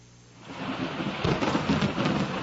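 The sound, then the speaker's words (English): Thunder cracks from above, rumbling and swelling over steady rain, building from a quiet start into a loud, rolling roar that surges in bursts, during a storm on Dantooine. No voices. “The thunder crack from above had faded just in time for Anakin to catch the whirring buzz of the Yuzhang Vong weapon arcing in at him.”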